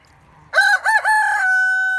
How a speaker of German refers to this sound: Der Hahn.